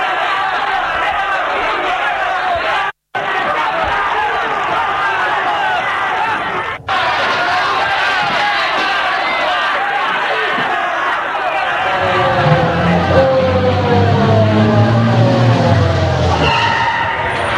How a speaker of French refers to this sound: Une voiture de police est arrêtée. Bousculade. La police est près de lui.